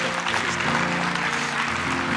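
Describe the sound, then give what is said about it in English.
A church audience claps steadily for the Lord during a Sunday service, a dense, continuous wash of many hands over sustained keyboard chords humming underneath. No one speaks, and the applause stays even and loud throughout. “And if you felt like you heard the Lord for you today to some extent, would you just clap and allow the Lord to want to thank you very much.”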